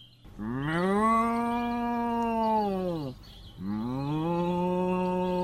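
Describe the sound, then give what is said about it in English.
A cow moos twice, loud: one long, drawn-out low moo followed after a short pause by a second sustained moo that runs to the end. “Oh, look at that lovely cow.”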